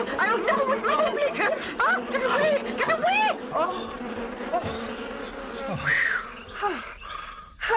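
A dense swarm of bees from a knocked-over hive buzzes loudly and continuously, a droning hum that swells and wavers throughout, with some indistinct chattering sounds mixed in.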